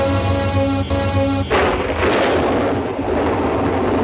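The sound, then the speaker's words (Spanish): A sustained musical tone gives way to a sudden, loud crack of thunder after lightning crosses a cloudy evening sky, rolling on as a heavy, broad rumble until the end, with no one speaking. “Un relámpago cruza el nublado atardecer.”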